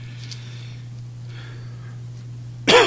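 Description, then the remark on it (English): A single sharp, loud cough bursts out near the end, after a stretch of quiet filled only by a steady low electrical hum and faint breathy rustles. “I apologize for the coughing and raspy voice again.”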